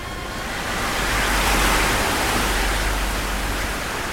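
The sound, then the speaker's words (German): A dense, roaring rush of crashing flood water as the sea closes in from all sides over an army with horses and chariots, swelling slightly louder midway before easing back, with no voices present. “Von allen Seiten kommt das Wasser. Die Fluten schlagen über den Ägyptern, ihren Pferden und ihren Streitwagen zusammen.”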